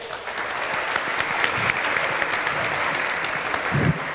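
A steady burst of audience applause for a quiz show contestant's score of 174 points, dense overlapping claps sustained at an even, fairly loud level for a few seconds with no talking over it.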